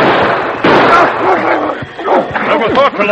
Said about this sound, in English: Oh, I'm right here, Sergeant. I can help you. The dog. Pull him off. Take him away.